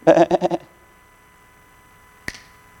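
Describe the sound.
A voice imitates a sheep's bleat, a short wavering baa lasting about half a second, followed after a quiet pause by a single sharp snap.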